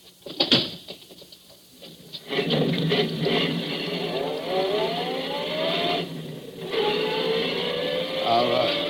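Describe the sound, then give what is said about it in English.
A sharp thump, then a car engine catches and revs, its pitch climbing as it pulls away. After a brief dip it accelerates again, loud throughout. “get in the car. I'll drive”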